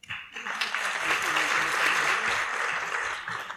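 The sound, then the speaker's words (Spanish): Steady crowd applause, a dense wash of many hands clapping at a fairly even loudness throughout, with a few murmuring voices mixed in underneath. “A continuación les pido por favor que nos acompañen con un fuerte aplauso”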